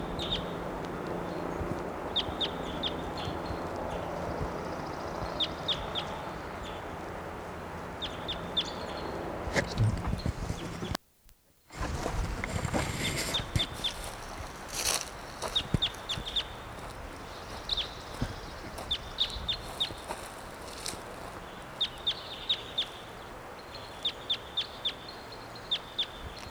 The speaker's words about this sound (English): Wild bird. Not sure which one this is. Let's see it. Up in the high treetops.